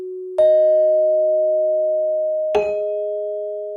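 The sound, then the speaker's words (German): Two clear, bell-like chime tones, each marking an entry being added, ring out about two seconds apart, each with a bright struck attack and a long, steady sustain that barely fades. No voices. “Die einzelnen Töne, die dabei entstehen, sind so Glockenklänge. Die markieren immer, wenn ein Eintrag hinzukommt.”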